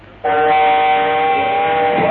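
A train sound: one loud, steady horn-like blast starts abruptly and holds for about two seconds without a break. There is no talking.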